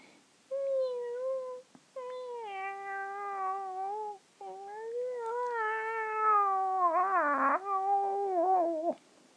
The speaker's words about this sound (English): And then cats, well, there's cat mews or meows